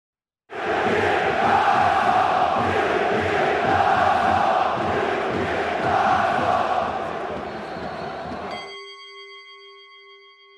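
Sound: football fans chanting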